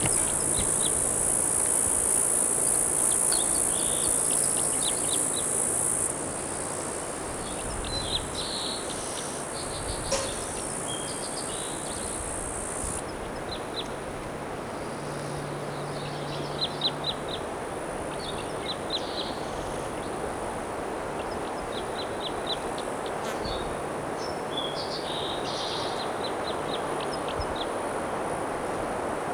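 A bird sings nearby outdoors at 2:29 p.m. in short, repeated high phrases over a steady, loud shrill of crickets and a constant hiss of background noise.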